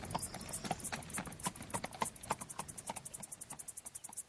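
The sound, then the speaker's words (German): Horse hooves clip-clop in a steady, brisk rhythm of sharp knocks, continuing throughout with no voices present. “Höhe, Pferdchen!”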